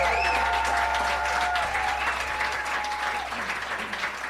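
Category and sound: crowd, audience applause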